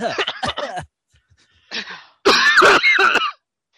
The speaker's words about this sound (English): That was the fakest cough I've ever heard.